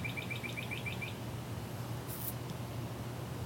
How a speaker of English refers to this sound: A lightning storm came through along with a accompanying funnel cloud, which is a tornado made out of water. It passed us by, but listen to these birds.